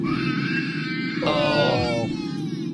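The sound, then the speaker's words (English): A 5-year-old child screams on a flight in a sustained, shrill wail that rises sharply partway through, loud over a steady low background rumble, with no talking. “That's not even crying. That's screaming.”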